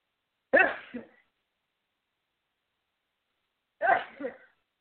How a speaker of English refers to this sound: And that happens when you sneeze. That means that the life that was in you prior to that exalts, and then you are giving new life. That's why people say, God bless you.